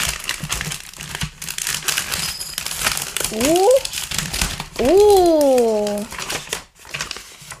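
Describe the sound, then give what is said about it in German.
Continuous crinkling and crackling of the foil wrapper of a giant Pokémon trading card pack being torn open and handled, with a couple of short voiced exclamations rising over the rustle midway. “Dann kommen wir jetzt zu diesem Riesen-Pokémon-Kartenpack. Ja, das werde ich jetzt öffnen.”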